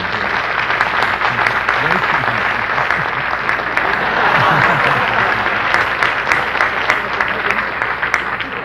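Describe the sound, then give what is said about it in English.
Sustained applause from a sizable audience at the University of Virginia law school, a dense, steady wash of clapping that stays loud throughout, with a faint murmur of voices mixed in beneath it. “Round of applause”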